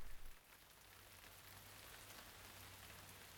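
A passing rain shower that has just started pours down, a dense, continuous hiss of drops on a surface with a low rumbling undertone, even throughout, no voices.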